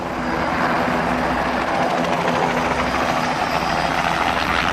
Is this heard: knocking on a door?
no